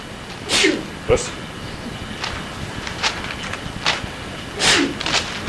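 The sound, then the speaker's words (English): Two sneezes, each a short, sharp burst of breathy noise, separated by a few seconds of quiet, low background hiss. “Bless you again.”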